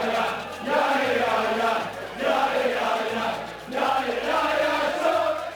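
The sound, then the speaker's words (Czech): A large crowd of football fans in a stadium chants in unison, loud rhythmic bursts of massed voices rising and falling in three repeated phrases, with a steady low hum of the crowd underneath. “Na fotbale musíme odlišovat křik a pokřiky. V těch fanoušci můžou oslavovat své oblíbence a někdy nemusí jít o složitě vymyšlené chorály.”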